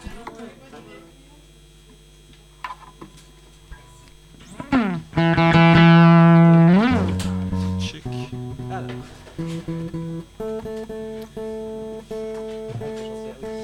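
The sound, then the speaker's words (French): Guitars being tuned: sustained plucked notes ring out, some sliding slowly in pitch before settling, followed by a series of shorter repeated string plucks with a loud, slightly distorted tone. “Ils n'ont pas encore des guitares qui s'accordent toutes seules.”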